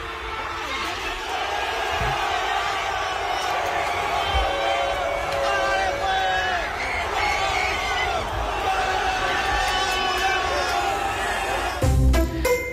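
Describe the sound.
A crowd of men jumps, shouts and cheers continuously on the pitch at the Estadio Azteca in Mexico City, celebrating Colombia's 3-1 win over Uzbekistan; their raised voices overlap into a loud, steady roar, with a few dull thumps and a brief louder burst near the end.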